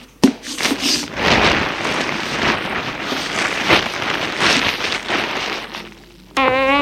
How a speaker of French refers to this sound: Elle vide son sac sur la table.